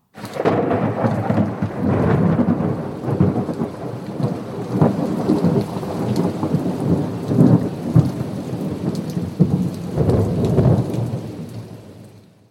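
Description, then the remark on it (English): A thunderstorm rumbles steadily with deep rolling thunder over a constant wash of heavy rain, loud throughout, with no voices. “Might be a storm coming, and we need to get into a safe harbour for the night.”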